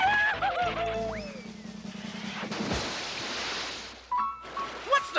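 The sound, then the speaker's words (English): A horse being urged to run faster whinnies with a wavering, falling pitch near the start, followed by a loud crashing burst and noisy commotion, with brief bright squeaks near the end. “Faster! Faster, you stupid horse!”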